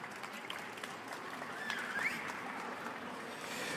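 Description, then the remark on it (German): An audience claps steadily for several seconds for a participant, a dense wash of many hands at even loudness, with a brief whistle rising through the middle. “Und dann würde ich sagen, aus dem Publikum raus gibt es für dich einen extra Applaus nochmal.”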